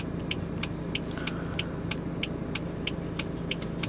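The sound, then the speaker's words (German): A steady, constant low rumbling hum fills the inside of a car in the dark evening on the way home, with a quick, even ticking repeating about three times per second throughout. No one speaks. “Und jetzt sitze ich hier im Auto, es ist dunkel, der Tag ist quasi vorbei, das heißt, der Abend bleibt noch.”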